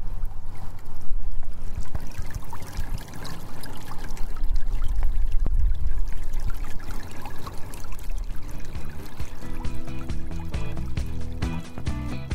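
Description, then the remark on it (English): Creek water flows and splashes steadily into a pond in a front yard in a noisy urban area, a continuous trickle and gurgle with no one speaking. “we have been listening to planes and cars all the time, that just having the underlying noise of this creek flowing down the pond really makes a huge difference in terms of livability of our front yard.”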